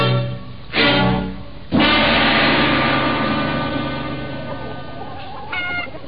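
Chickens cluck and squawk in a chicken run in a few loud bursts, with a busy, scratchy background of fowl between them and a higher drawn-out call near the end. No one speaks.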